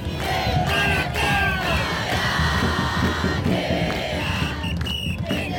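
protest crowd chanting slogans

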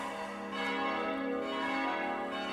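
church bell ringing

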